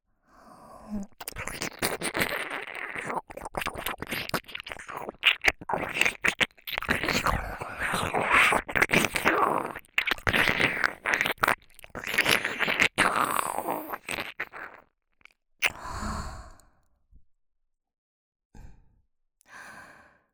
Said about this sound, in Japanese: 少し舐め方を変えてみることにします。同じ刺激じゃお耳もおちんぽも飽きてしまうでしょうから。お耳をすするように。